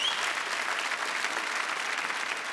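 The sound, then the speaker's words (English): An audience claps steadily throughout before a set of Northumbrian music, a dense, even wash of many hands applauding at moderate loudness with no pauses. “Here's a round of applause, yeah.”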